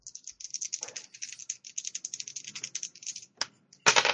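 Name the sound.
two dice being rolled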